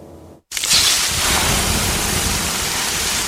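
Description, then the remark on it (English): After a brief silence, water is poured on 800-degree sauna rocks and erupts into a loud, steady hiss of steam that sizzles on for a few seconds without fading. “The sound of water being poured on 800-degree rocks.”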